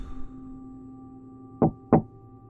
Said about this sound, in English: Whit counted 12 doors on his right, and then found himself taking a deep breath before knocking twice.